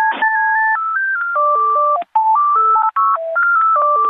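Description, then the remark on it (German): Tinny telephone hold music of the airline Air Berlin: a simple electronic melody of steady, beep-like tones stepping from note to note, loud and continuous apart from two brief dropouts, with no voices. “Meine Güte, bei diesem Air Berlin-Song, den wir da gerade gehört haben, da läuft es einem aber kalt den Rücken runter.”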